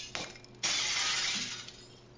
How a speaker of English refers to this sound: Well, they won't answer the door, so the door is nothing now. The door is splinters. Are you kidding me? No. See, watch.